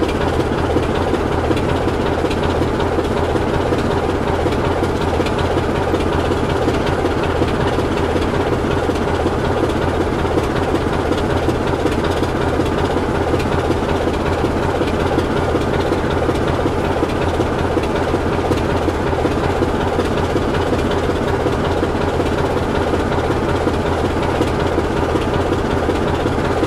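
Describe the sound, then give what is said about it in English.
An old, battered, army-green locomotive engine runs steadily, a loud, constant low rumble and throb with rattling mechanical texture, holding the same heavy drone for the whole stretch without any talking. “So I kind of enjoy listening to this old beastie.”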